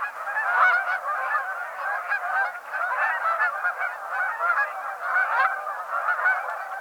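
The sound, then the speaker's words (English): A flock of Canada geese honks continuously, many overlapping nasal calls forming a loud, clamorous chorus with no pauses, busy throughout. “The clamorous sound of Canada geese is a vocalization often likened to the barking of hounds.”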